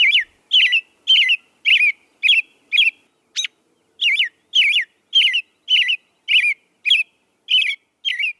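A male robin sings its territorial song to guard its turf from other males and attract a female in the breeding season: a steady series of short, clear whistled phrases, about a dozen in quick, even succession, fairly loud with no other sounds around.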